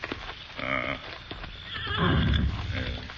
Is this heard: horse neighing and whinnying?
yes